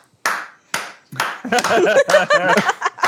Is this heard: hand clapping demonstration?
yes